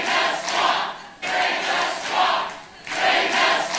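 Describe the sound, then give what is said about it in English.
A large crowd at a 2016 Donald Trump campaign rally applauds and cheers loudly at a line from his speech, the roar surging in three rhythmic waves with no single voice standing out. “One of the big applause lines in his speeches during 2016.”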